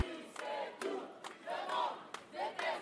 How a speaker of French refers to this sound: Les manifestants et les manifestantes remontent la rue Charles de Gaulle en direction du centre-ville.